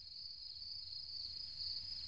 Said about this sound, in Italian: Ah, il grillo. Un grillo. Cri cri cri cri cri cri cri cri cri. Bello.